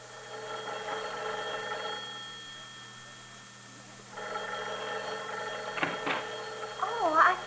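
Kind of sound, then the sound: household object, telephone ringing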